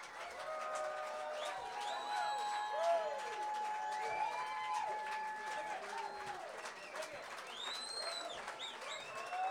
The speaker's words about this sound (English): Hey, this is …, everybody. I bet we could most likely convince them to come out and play one more if you politely clap, cheer.